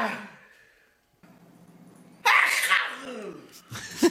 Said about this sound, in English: Literally doesn't stop. How many times are you going to sneeze